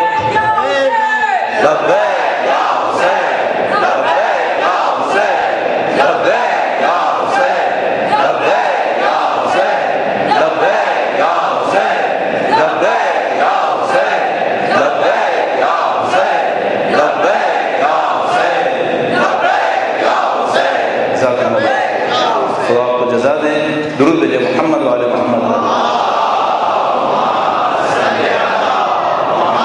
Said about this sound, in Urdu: آپ نے نعرہ لگانا ہے, پورے جذبے کے ساتھ لگائیے, پوری طاقت کے ساتھ لگائیے, اپنے پوری جذبے کا اظہار کرتے ہوئے نعرہ لگائیے.